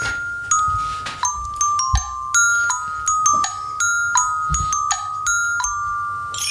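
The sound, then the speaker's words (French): A short, bright chime jingle used as a page-turn transition between segments: a run of light, tinkling bell tones ringing out in a quick melodic pattern, clear, with no talking over it. “Oui, ça me rappelle quand j'étais petit que j'attendais la petite sonnette, la petite clochette pour tourner la page dans mes histoires.”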